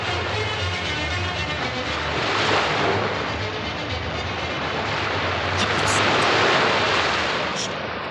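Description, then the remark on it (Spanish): Steady roar of sea waves breaking at a harbor, a dense hiss of surf that swells twice as larger waves crash, continuing throughout with no voices. “Todos los días pasaba horas enteras mirando las olas y las espumas.”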